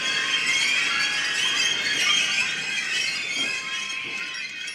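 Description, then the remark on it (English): A squeaking, skronking escalator gives off a continuous tangle of shrill, high-pitched squeals and metallic screeches, held steady and loud for the whole stretch with no voices. “We understand that we could be over-romanticizing a skronking and squeaking escalator.”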